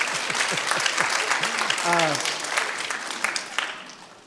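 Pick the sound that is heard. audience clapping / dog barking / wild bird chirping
audience clapping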